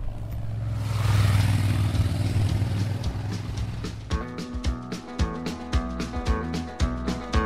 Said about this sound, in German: Hat mir mal einen Eindruck gegeben, wie es ist, an der L101 zu wohnen, die ja sehr begehrt ist bei den Motorradfahrern.